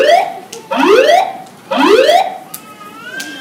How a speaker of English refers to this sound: Ladies and gentlemen, your attention please. An alarm has been activated. We are investigating the cause. Please remain calm and stand by for further instructions.